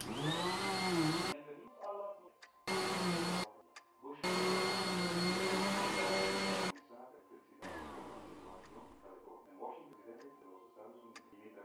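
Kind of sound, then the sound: household object, vacuum cleaner running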